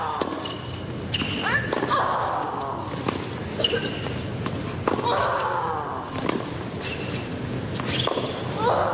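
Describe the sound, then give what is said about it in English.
During Arina Sabalenka's first-round Australian Open match against Ash Barty, sharp tennis ball strikes ring out at a steady rally pace, each followed by Sabalenka's loud, drawn-out vocal grunt that falls in pitch, repeating several times over a low crowd murmur. “The audibility of the grunting in her three-set loss quickly attracted mocking from the local crowd, forcing the chair umpire to intervene.”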